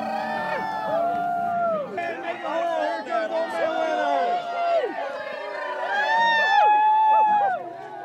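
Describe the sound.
A large outdoor crowd in West Virginia cheers and whoops continuously at midnight as an Old Man Winter effigy is hauled onto a bonfire, with rising and falling howls and shouts over a dense babble of voices, loud and sustained throughout; it is 40 degrees.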